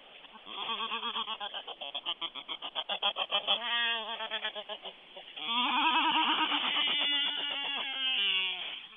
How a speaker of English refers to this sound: Can you just hold that phone there for a moment and let us hear these birds? Yes, I'll walk into the colony and just hold the phone near the birds so you can hear them yourself.